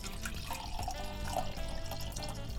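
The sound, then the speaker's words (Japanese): Barrel-aged 2021 Viladist Sauvignon Blanc from the Viladist Winery pours steadily into a glass for a couple of seconds, a continuous trickling gurgle at moderate volume with no one talking over it. “はい、早速注いでみます。”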